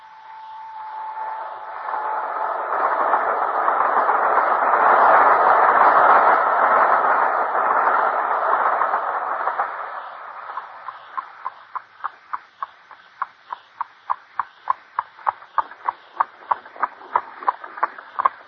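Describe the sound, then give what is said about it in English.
A train rolls along the rails with a broad rumbling roar that swells and fades, giving way to a steady rhythmic clacking of wheels over track joints. No voices are heard. “Our only hope is to take the very first train in the morning.”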